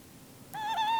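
A single sustained owl hoot starts abruptly after a quiet stretch, a clear tonal call with a slight waver in pitch, moderately loud.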